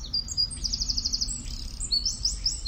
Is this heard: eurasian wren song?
yes